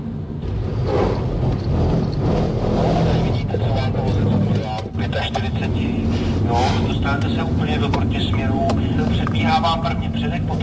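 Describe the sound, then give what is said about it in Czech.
A car engine roars steadily as the vehicle accelerates and skids on a skid-training course in Gmünd, Austria, its rear end sliding out, a dense rumbling drone with tire noise, while a voice talks over it throughout. “Zadek auta mi ujel úplně.”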